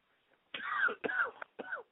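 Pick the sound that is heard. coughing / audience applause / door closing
coughing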